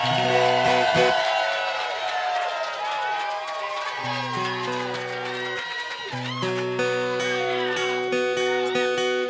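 A concert audience at a band's show applauds and cheers steadily for several seconds, a dense wash of clapping with a few shouts, while low sustained tones drone underneath throughout.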